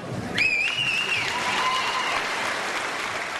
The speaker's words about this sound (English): invites all the veterans in the audience to stand while the crowd applauds.